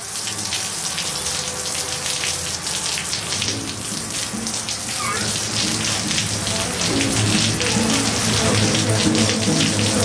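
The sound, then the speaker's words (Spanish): Heavy rain pours down steadily, a dense, hissing wash of drops pattering on hard surfaces, continuous, growing slightly louder toward the end with no voices. “Uno creería que el hombre urbano, bajo un aguacero, tendría que darse cuenta de la naturaleza en su humedad y su frescura, su bautismo y su renuevo.”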